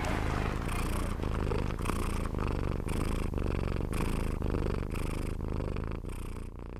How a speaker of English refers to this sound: The deep resonant purr there of a cat